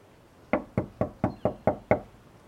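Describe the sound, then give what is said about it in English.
Seven firm knocks rap on a door in a quick, even rhythm, fairly loud, with a brief quiet before they start and no voices. “I knock and wait.”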